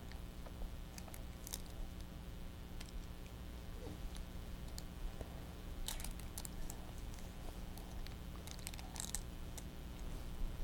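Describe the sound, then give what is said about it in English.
Small metallic clicks and jingles scattered irregularly as a baby handles and mouths a set of keys, with a few brighter clinks near the middle and end. “What'd you get? Your keys?”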